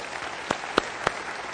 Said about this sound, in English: Don't clap for Winter Park or Lake Highland. Just kidding.